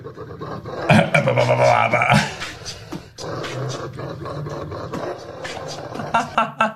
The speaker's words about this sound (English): Terrifying. Oh, dear. I wouldn't put my face that close to a dog making them those noises. Would you?